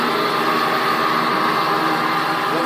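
A rock saw used for cutting stone idles before sawing begins, with a steady, loud mechanical drone and whine, running continuously with no talking.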